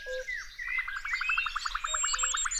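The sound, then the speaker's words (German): Many different bird species singing at once in a busy morning chorus in spring, with a rapid, regular trill running through it and other chirps and whistles layered above, steady. “In der Früh hört sich das richtig schön an, weil da ganz viele verschiedene Vogelarten singen.”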